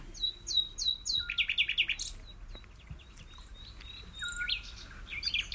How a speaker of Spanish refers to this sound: Aquí está. El ruiseñor.